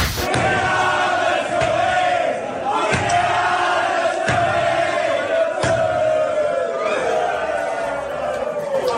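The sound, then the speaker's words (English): The New South Wales Blues squad of men singing loudly together after Wednesday night's win, their voices ragged and out of tune, with a wavering sustained pitch and occasional sharp claps or thumps punctuating the din. “Firstly, this bunch of screaming cats that can't seem to hold a tone.”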